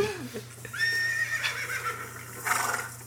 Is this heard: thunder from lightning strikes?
no